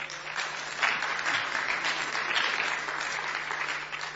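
An audience claps steadily for about four seconds, a dense, even wash of many hands at moderate loudness with no voices over it.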